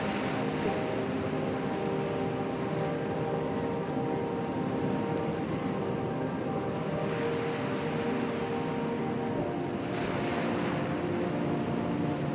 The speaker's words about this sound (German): Der Tag erwacht zum Leben und so auch der rauschende Atlantik. Wild schlägt er seine Wasserarme gegen die Küste und lässt uns immer ausfallender hin und her schaukeln.